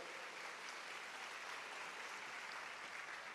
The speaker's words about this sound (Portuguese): Para quem não está acostumado com a IBC, ao invés de gritar glória, aleluia, o povo bate palmas, né? A gente gosta de bater palmas.